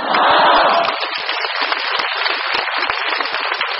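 An audience of Buddhist learners breaks into applause, a dense, steady wash of many hands clapping that swells loudest in the first second and then carries on evenly, with no voices over it.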